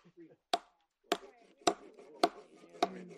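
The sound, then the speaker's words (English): Wood being chopped for a campfire, five sharp, loud blows struck at a steady, even pace about half a second apart, each a crisp crack with a brief woody rattle after it and no voices. “The rest of us hunt for dry kindling and chop wood for a fire.”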